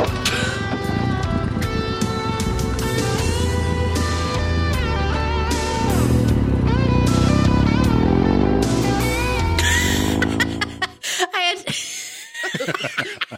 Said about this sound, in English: I had to leave that one long so you could hear the terrible music plus the moody motorcycle. Oh, Jesus. The farting cycle. Yes. So bad. So dumb.